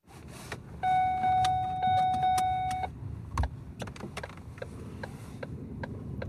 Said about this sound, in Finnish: Kuu paistaa, kun ajan mutkittelevaa tietä kohti moottoritien valoja. Pakastaa. On tähtikirkas talvi-ilta.